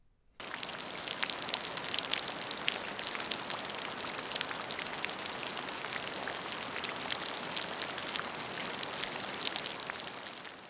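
During heavy rain, rainwater from a gutter outlet splashes steadily into a puddle on the ground, a dense, continuous patter of drips and spatters with no pauses, even in loudness throughout.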